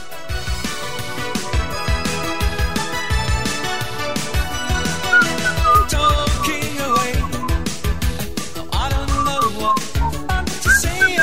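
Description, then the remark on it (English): A person whistles a melodic tune over a loud, busy musical backing with steady drums and bass. The whistled line weaves in and out of the dense accompaniment, and no one speaks. “Yes, that was me whistling.”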